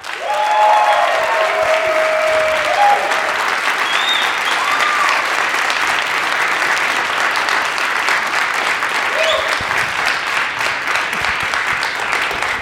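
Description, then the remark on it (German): Sustained, loud applause from a large audience applauding for a submitted question fills the whole stretch, a dense steady roar of clapping with a few faint whoops and voices rising briefly above it. “Ich sag einfach, wer die gestellt hat und worum es geht, und dann gebt ihr euren Applaus.”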